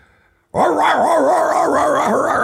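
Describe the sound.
After a moment of quiet, a loud burst of frantic barking and howling from drug-sniffing dogs put on a plane starts abruptly and keeps going without a break, its pitch wavering up and down.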